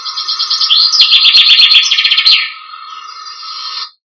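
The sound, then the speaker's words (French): A common chaffinch from the Isère department in France sings: a rapid, rolling trill of repeated notes that speeds up and ends in an accented flourish, followed by a softer sustained tone before falling silent. “Alors, ce chant du pinson, c'est une sorte de ritournelle un peu roulée avec une finale accentuée.”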